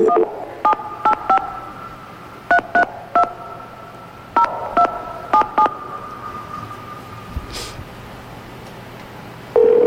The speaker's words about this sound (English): It's ringing. One ring-a-ling.